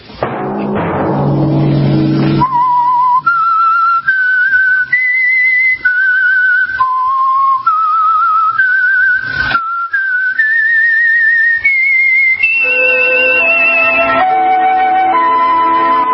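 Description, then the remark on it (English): A lone, clear whistled melody, the signal tune of the Signal Oil program The Whistler, rises and falls through a series of sustained notes, steady and prominent, following a brief burst of orchestral music at the start. “Whistle be your signal for the Signal Oil program, The Whistler, each Sunday night at this same time.”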